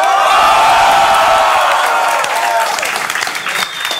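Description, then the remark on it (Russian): A loud crowd roars and cheers, with shouts and whoops over dense applause, the noise staying strong before easing a little toward the end. “Еще раз шума дайте.”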